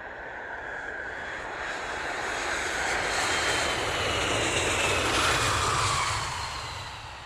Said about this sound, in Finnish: Lentokone on nyt saavuttanut lentokorkeuden.